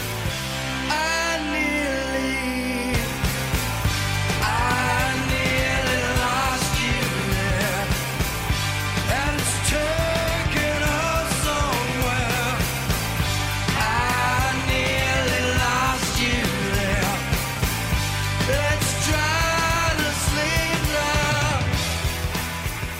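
A loud, full-band rock song from 1992 with driving drums, distorted guitars and a sung lead vocal, playing steadily for the whole stretch after a brief quieter intro.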